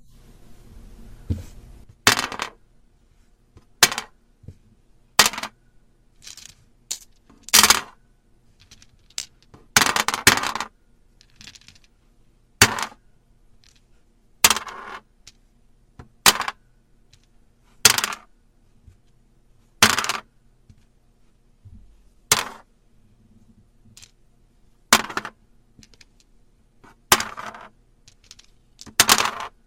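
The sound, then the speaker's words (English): Backgammon pieces clatter onto a hard surface in a long series of sharp, bright clacks, some landing in quick doubles, spaced a second or two apart with quiet between them. “That's backgammon.”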